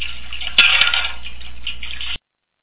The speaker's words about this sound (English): So I'm going to go ahead and put the dishes away.